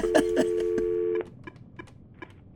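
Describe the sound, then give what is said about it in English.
An old-fashioned wall-mounted landline phone's steady dial tone with a few clicks cuts off, followed by a quick series of short keypad beeps as someone checks for messages, clear, with no talking. “Bueno, let me check this ancient landline for messages.”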